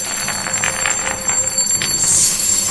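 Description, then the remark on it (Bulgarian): Metal scales ring and jingle like small ominous bells in a continuous bright shimmer with repeated clinks, fairly loud, with no one speaking. “Как страшно съскат, а металните им люспи звънят като злокобни звънчета.”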